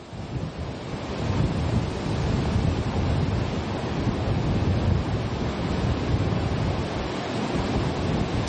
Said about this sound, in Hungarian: A szél továbbra is viharos erejű, a Balatonból kicsapó hullámok pedig óriásiak. Talán nehéz elhinni, de ahol most vagyunk, az a Fonyódi Szabadstrandnak a partja